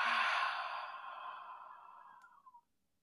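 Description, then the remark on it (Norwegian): A long, soft breath pushed out through the mouth during a calming breathing exercise before sleep, after breathing in through the nose: a breathy airy hiss that slowly fades over about two and a half seconds, ending in a faint puff. No talking. “Og ut gjennom munnen.”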